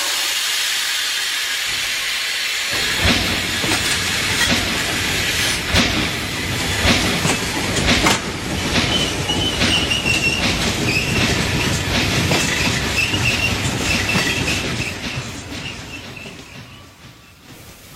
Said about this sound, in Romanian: sosit în gara Vârciorova din direcția Paris via Hamburg pleacă de la linia 1 în direcția București-Istanbul la sfârșitul scenei 1 din actul 1. Atenție la linia 1. Persoanele care au însoțit pe călător la tren sunt poftite să coboare din vagoane.